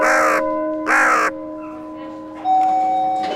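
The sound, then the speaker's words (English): Two loud, harsh crow caws ring out close together, followed after a short pause by a rougher, more drawn-out cawing, all over a faint steady humming tone. “A murder of elderly crows has just escaped the crow ward.”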